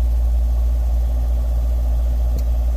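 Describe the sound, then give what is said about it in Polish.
A car engine idles as the car drives onto a ferry to cross a river, a steady, low droning rumble that holds evenly throughout, fairly loud, with one brief faint click near the end and no voices. “Tutaj powinienem wyłączyć silnik.”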